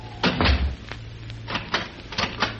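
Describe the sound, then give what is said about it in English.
A study door shuts with a low thud, followed by a series of sharp mechanical clicks and rattles as a lock is turned, moderately loud. “Is it quite necessary to have the door locked”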